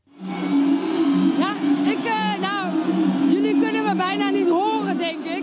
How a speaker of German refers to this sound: Die Fernsehreporterin bei der Wahlparty der Sozialliberalen ist kaum zu verstehen. So laut ist der Jubel, als die erste Prognose bekannt wird.